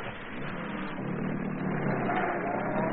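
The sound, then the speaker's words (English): A heavy truck engine rumbles steadily and swells gradually as it revs, a dense low drone with no voices over it. “If it hadn't worked, I'd have flung myself under that truck to keep it from proceeding.”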